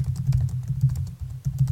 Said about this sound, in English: And typing. Okay, I turned you up so I can hear it, but it's very fuzzy.